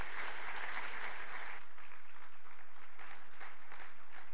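An audience claps steadily, dense and loud at first, then thins out into scattered, softer clapping as the applause tapers off. No one speaks.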